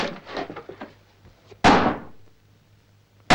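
Heavy blows from a hammer and board batter a door: a few lighter knocks and rattles, then one loud, booming slam that rings out and fades, with another hit starting just at the end.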